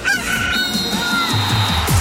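A rooster crows a single loud, drawn-out cock-a-doodle-doo, clear, with a low rumbling background underneath, used as the alert sound of an RMC radio contest.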